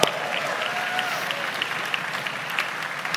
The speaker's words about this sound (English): Can we just give a round of applause for the women?